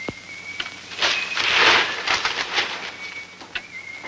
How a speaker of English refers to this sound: A third detective straightens his newspaper.